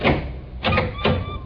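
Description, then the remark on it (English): A parlor door being opened, with three short, dull clunks and rattles as the latch and handle are worked, over a low background rumble and no voices. “Open the parlor door.”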